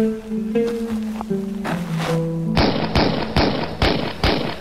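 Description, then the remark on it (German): Five loud gunshots, fired on the beach of Algiers in 1942, ring out in quick, evenly spaced succession, each a sharp blast, following a brief stretch of low, sustained tonal music. “Fünf Schüsse. Gefallen im Jahr 1942 am Strand von Algier.”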